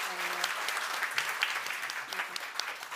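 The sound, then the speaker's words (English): A crowd claps steadily, a dense continuous wash of many hands applauding at moderate volume, with faint voices mixed underneath; the applause is for the title idea "Doggone". “Anyway, let's hit round of applause for Doggone.”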